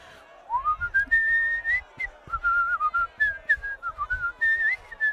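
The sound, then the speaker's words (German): A person whistles a lilting, robin-like tune for about five seconds, the melody sliding up and dipping in quick, warbling phrases at a steady, moderate loudness, with soft low rumbling underneath. “Und so flogen die drei Vögel aus und das Rotkehlchen stimmte ihr schönstes Liedchen an.”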